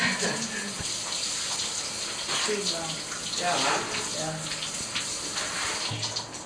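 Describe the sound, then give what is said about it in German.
Shower water runs steadily into a bathtub as a caregiver showers a patient seated on a bath seat, a constant splashing hiss from start to finish, with a couple of brief voices speaking over it. “Schon wieder duschen? Ja, immer ich duschen.”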